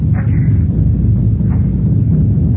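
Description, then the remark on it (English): A deep, continuous rumble roars steadily throughout from a snow avalanche covering the far side of a valley, with faint higher streaks of wind-like noise passing over the low, heavy roar. “this ghost light, a regular avalanche.”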